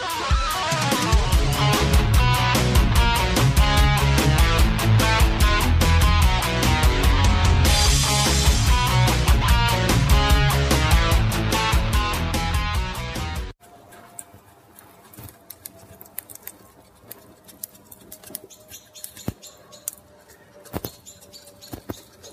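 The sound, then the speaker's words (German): Loud music plays for about thirteen seconds and stops abruptly. Then comes the quieter sound of food sizzling on a grill over a fire: soft, uneven crackles and pops, with a few faint bird chirps over it. “Hört ihr das? Und ich meine jetzt nicht den Vogel. Ja, es ist wieder soweit, ich grille.”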